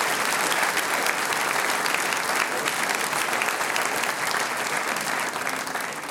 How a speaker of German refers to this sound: Ja, das ist dein Applaus.